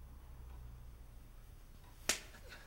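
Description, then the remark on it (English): A single sharp slap across the face cracks out once against a quiet, humming background, fairly loud, with a brief ringing tail and no talking around it. “Come on, do it properly with the back of the right hand.”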